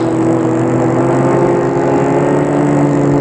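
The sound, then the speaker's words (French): A car engine drones steadily as the vehicle drives through the deserted streets of Paris at speed, a loud, unbroken hum with no voices and no change in pace. “La voiture file dans les rues de Paris désertes.”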